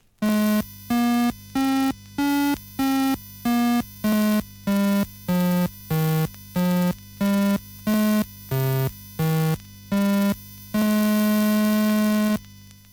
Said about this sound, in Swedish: Tonerna görs med hjälp av så kallade fyrkantvågor som ganska väl motsvarar lägre registret på en klarinett. Det är ändå ett säreget instrument som här ska få hjälp med en avskedssång.